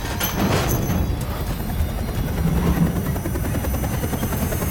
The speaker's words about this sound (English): The chopper takes off, lifting the car with him in it.